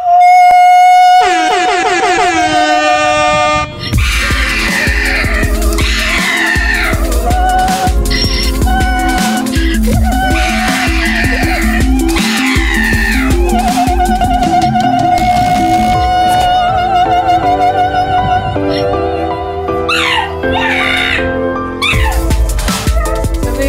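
A loud audio mashup of a pug, a donkey and opera: a steady thumping beat under the pug's sweeping, howling cries and the donkey's brays, woven with sustained operatic singing tones, running continuously without any talking.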